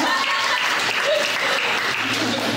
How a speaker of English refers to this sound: just because I like making you guys clap. Clap if you've seen Child's Play.